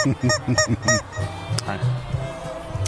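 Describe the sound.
A rubber chicken is squeezed several times in quick succession, giving loud, nasal, honking squawks up close, followed by someone talking.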